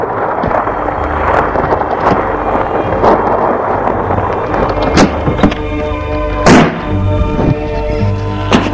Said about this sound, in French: Tout à coup, la porte de sa chambre s'ouvre.